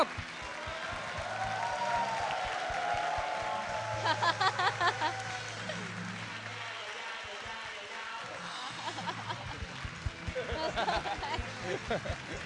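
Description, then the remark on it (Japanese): A big round of applause from an audience welcoming the comedy duo Yasei Bakudan onto a show, a dense, steady wash of clapping that carries on for several seconds at fairly high volume while voices speak over it. “大きな拍手でお出迎えください。”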